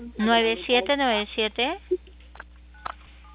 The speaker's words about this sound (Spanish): ¿Me escucha? Se están aplastando sus teclas.